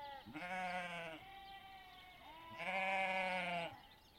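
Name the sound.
sheep bleating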